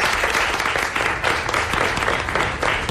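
An audience applauds steadily, a dense wash of many hands clapping at a fairly loud, even level throughout, with no talking over it.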